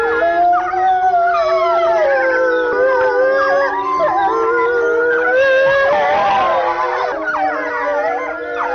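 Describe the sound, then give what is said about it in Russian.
A wolf pack of four adults and four cubs at the Novosibirsk zoo howls in chorus after the zoo has closed, several voices rising and falling in overlapping, wavering tones that continue loudly and without a break for the whole stretch, with no talking. “если волков прервать во время воя, они бросаются друг на друга”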